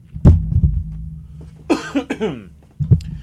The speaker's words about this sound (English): The microphone sensed I needed to cough, and it automatically retracted away from my face.